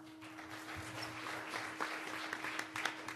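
An audience applauds with a dense, steady patter of many hands clapping at once, fairly soft and unbroken for a few seconds, with a faint constant hum beneath it and no talking.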